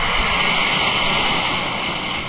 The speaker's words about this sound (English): Then just drop one or two tablets into a glass of water like this. Listen to it fizz.